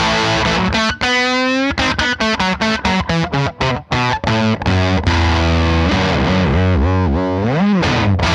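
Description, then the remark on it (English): A dry, barky distorted electric guitar, played through a distortion pedal, plays loud, mid-heavy riffs with choppy chords and sustained notes, with no talking. “So it's got this very dry, kind of barky distortion.”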